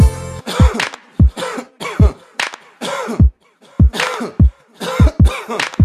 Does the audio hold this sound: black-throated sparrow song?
no